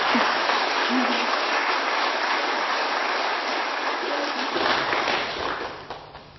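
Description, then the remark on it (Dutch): A large church audience claps steadily for the choir after its singing, a dense, reverberant wash of applause that holds for several seconds and then thins out near the end. “En in de kerkraadskamer zeiden ze, daar mag je best applaus voor vragen.”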